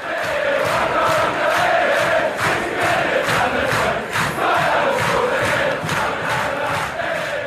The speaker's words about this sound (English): But it was an important goal for Kai Havertz. And as he wheeled away into the corner to celebrate this, you know, first goal with the Arsenal fans, a song starts ringing around the stadium.